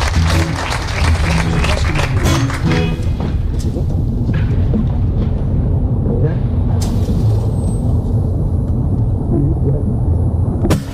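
An audience claps loudly for live performers, a dense, steady wash of many hands that runs the whole time, with sharp individual claps standing out early and a fuller crowd roar later.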